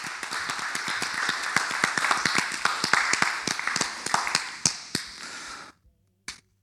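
A crowd applauds with dense, sharp claps, a few single loud claps standing out, before the clapping cuts off, followed by one last isolated clap.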